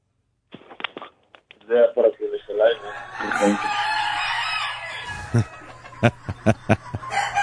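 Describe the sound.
A rooster crows loudly, a long drawn-out call preceded by some clucking, followed by a few sharp short sounds, with people's voices mixed in around it.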